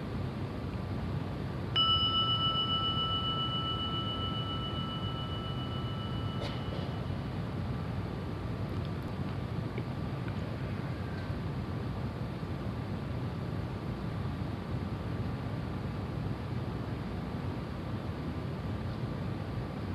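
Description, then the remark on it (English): A single gong is struck once near the start, its bright metallic tone ringing out and slowly fading over a long sustain, with a steady low background rumble and no talking. “Let the sounding of the gong be an invitation to maybe let go just a little more of the armoring to arrive.”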